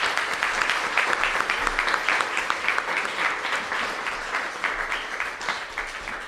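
Sustained applause from an audience, a round of applause for event participants, fills the whole stretch: a dense, steady patter of many hands clapping at an even loudness with no voices standing out.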